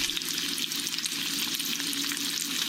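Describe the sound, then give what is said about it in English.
Bacon sizzles steadily in a frying pan, a dense, constant crackle and hiss with scattered tiny pops, fairly loud, with no voices. “It's bacon. Sizzling bacon in.”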